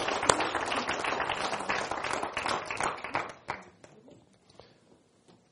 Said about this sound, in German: Wundervoll. Ein Applaus für Sie.